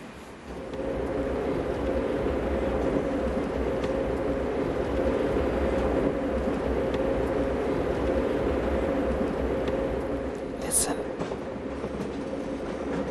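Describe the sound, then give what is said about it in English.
Train wheels rumble steadily along the rails in a continuous, loud ride, with faint rhythmic clacks and a brief high squeal near the end; a voice speaks briefly at the start. “I love the rhythm of the rails, the motion of the train.”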